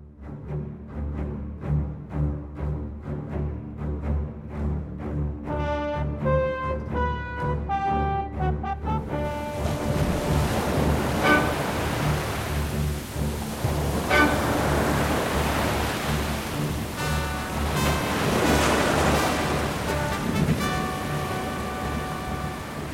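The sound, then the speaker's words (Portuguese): Ocean surf roars in a dense, steady wash of noise, swelling and crashing loudly over a background of sustained tonal music, with no voices present. “Era medonha a força das águas. O bote acabou virando e nos lançando todos ao mar. Uma onda violentíssima me engolfou e, enquanto tentava desesperadamente voltar à tona, percebi que a marola havia me aproximado da terra.”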